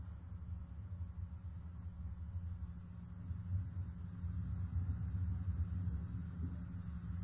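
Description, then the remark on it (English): Soft, steady rain with a low, rolling rumble of thunder underneath, all kept at a quiet level and swelling slightly toward the end. No voices. “Probably hear rain and thunder at a very light volume.”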